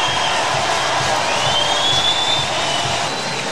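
A large stadium crowd at Wrigley Field cheers and applauds in a steady, dense roar that holds for several seconds, with a faint high whistle drifting through the noise: a full standing ovation for Willson Contreras at what may be his final at-bat as a Chicago Cub.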